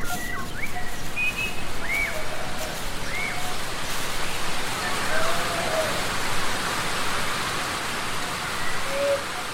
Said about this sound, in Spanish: No había hecho más que unos pocos metros cuando la suerte quiso que una lluvia repentina se abatiera sobre el pueblo.